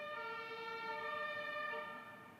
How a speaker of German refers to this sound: Jetzt fährt hier die Feuerwehr. Ich weiß nicht, ob ihr das hören könnt.